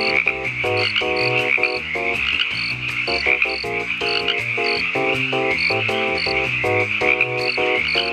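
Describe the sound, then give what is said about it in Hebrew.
A dense, steady chorus of chirping crickets fills the scene, loud, with rapid rhythmic croaking pulses layered underneath throughout. No voices. “קבלו את התנצלותנו הכנה בצירוף הרבה קולות של צרצרים.”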